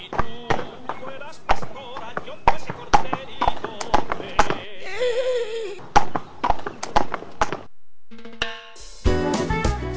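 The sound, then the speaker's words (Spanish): Horse hooves clip-clop in a steady, brisk rhythm, loud, with a brief whinny-like cry partway through before the hoofbeats trail off into other noise, as a rider sets off swiftly on horseback. “Marcho raudo y veloz con mi caballo.”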